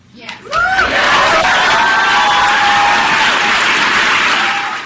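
An audience at a speech breaks into loud, sustained applause with cheering and whoops, rising sharply after a brief quiet start and holding steady as a dense wash of clapping.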